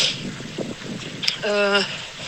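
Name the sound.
strong wind blowing outdoors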